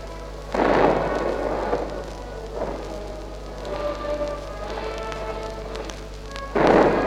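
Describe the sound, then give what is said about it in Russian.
A loud rumbling volley of gunfire, the first shot of a farewell gun salute at a funeral as an urn is placed in a niche in the Kremlin wall, booms out. Its echo rolls away over steady background hiss and hum before a second heavy blast bursts in at the end. No one speaks. “Сейчас первый выстрел салюта.”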